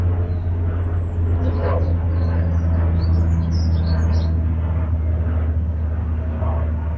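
A helicopter drones steadily overhead, its deep, constant rumble filling the whole stretch while small birds chirp and tweet faintly in the background. No one speaks.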